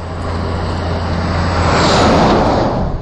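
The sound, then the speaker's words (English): A short road train truck rolls past on a quiet road around sunset with a broad, steady roar that swells to a peak about two-thirds through and then eases slightly, a low engine drone underneath early on. “Still the odd road train, although that was a short one, but not very many on this road either.”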